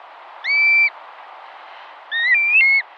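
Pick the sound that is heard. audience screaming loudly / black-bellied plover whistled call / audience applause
black-bellied plover whistled call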